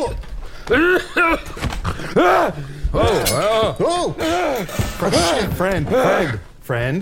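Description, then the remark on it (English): A man groans and gasps, a string of loud, wordless moans rising and falling in pitch with sharp breaths between them, like someone stirring awake. “Oh, he's waking up.”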